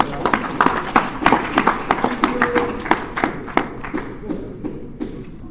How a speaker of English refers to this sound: Before I get started, could you take this opportunity to give God a hand clap? Right.